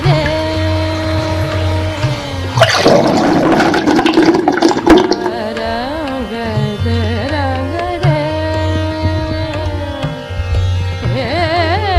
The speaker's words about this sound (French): Laurent l'aide à aller au WC. Il le maintient. … vomit dans la cuvette. La chasse d'eau.